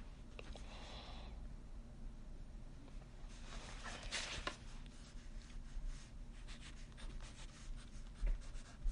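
A pen scratches across a piece of paper as a graph is worked out, in irregular bursts of writing strokes, with a brief louder scribbling flurry partway through, over a low steady hum and no talking.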